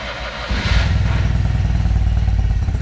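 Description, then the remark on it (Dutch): The engine of a custom-built motor trike, from a brand founded in Ophemert, rumbles low, then revs up sharply about half a second in and holds a loud, throaty, pulsing drone to the end, with no one speaking. “we hebben sowieso driewieler of vierwieler”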